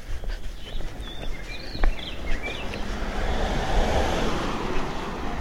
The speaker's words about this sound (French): Voilà, une voiture. Là, on est vraiment sur une des artères les plus empruntées, à côté d'un grand centre d'affaires.